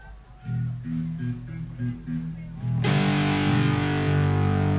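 A live band plays out of tune, having started the song in different keys, instruments clashing: a few sustained notes at first, then loud distorted guitars crash in and keep droning together, messy.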